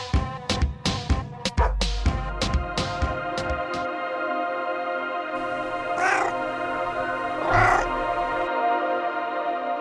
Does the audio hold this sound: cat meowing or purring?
yes